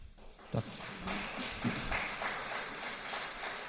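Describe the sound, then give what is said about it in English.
An audience applauding, a dense wash of clapping that holds steady at a moderate level for a few seconds, with a couple of heavier thumps early on. “I'm not sure why there was applause there, and here's why.”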